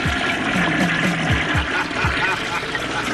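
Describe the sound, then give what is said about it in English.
A toilet flushes, a loud steady rush of water with low gurgling swoops as it drains, filling the whole moment without any talking over it. “I flush the toilet. And it makes a funny noise.”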